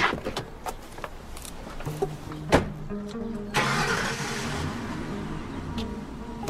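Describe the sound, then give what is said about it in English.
A car engine cranks and turns over, then revs and settles into a steady running hum as the car pulls out down the street, with a few clicks and thumps before the start as a woman gets in. No talking. “She gets into the car.”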